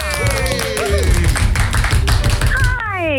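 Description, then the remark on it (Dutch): Loud, steady applause from a crowd welcoming Wendy van Dijk on her 48th birthday, dense clapping running throughout, mixed with cheering voices and rising and falling whoops over the top. “Dames en heren, een warm applaus voor niemand minder dan de jarige Job.”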